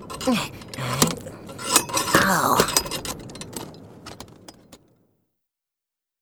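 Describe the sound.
Irregular metallic clinks and clanks of a food delivery man mending his scooter, sharp bright taps over a few seconds, with a brief pained exclamation from a voice partway through.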